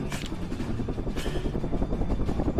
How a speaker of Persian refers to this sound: صدای هلیکوپتر، میز داره میلرزه، سرشو میبره بالا، نور میاد و پلیس ها از راه میرسه.